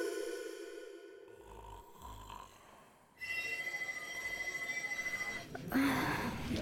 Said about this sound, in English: That phone goes off and the whole room sits up.